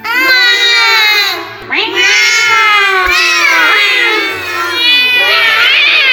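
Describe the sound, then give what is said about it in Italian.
Several cats in a palace meow loudly and continuously, their long wailing cries overlapping and rising and falling in pitch, filling the whole stretch with no pauses. “Riempire il palazzo di gatti. Detto fatto.”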